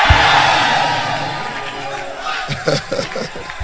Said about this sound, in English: Somebody shout, hey!